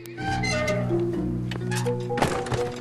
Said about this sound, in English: And closes the door.